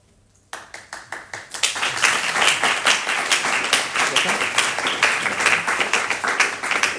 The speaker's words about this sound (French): Si vous avez compris, ces applaudissements très sympathiques, c'est les cloches qui annoncent qu'on prie, c'est ça?